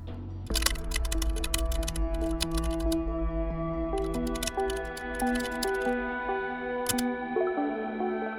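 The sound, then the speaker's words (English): Rapid clicking of someone typing on a laptop keyboard, starting a new thread on an online community, in two long bursts and a brief final flurry, over a steady, sustained musical backdrop. “clicked on the Create a New Thread icon and started typing.”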